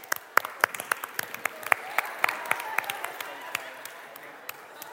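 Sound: round of applause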